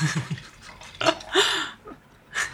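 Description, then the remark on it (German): Silvaner wine glugs into a glass in a few uneven gurgling bursts, with bubbly rising tones between quieter pauses, and no voices. “Ich schenke dir mal einen Schluck ein.”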